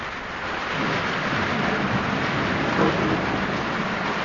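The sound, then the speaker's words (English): Steady, dense rain pours down throughout, a continuous hiss with a low rumbling undertone and no voices, unchanging for the few seconds heard. “I ran through the rain.”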